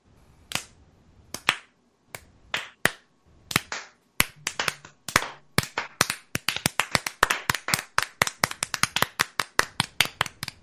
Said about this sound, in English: Can we give this gentleman a slow clap? Because this gentleman from Florida State deserves.